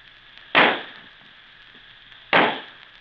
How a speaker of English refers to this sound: Then suddenly came a great sizzling sound, a loud bang, a red ball of light shot high in the air.